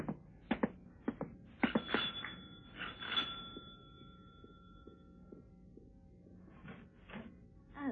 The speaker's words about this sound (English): I thought I'd take a walk to Hyde Park and was leaving my room to go downstairs when the front doorbell rang.